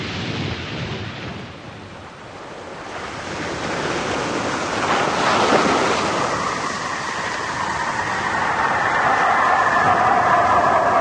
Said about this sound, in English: 500 feet. We're going to hit the water about a quarter of a mile off the beach.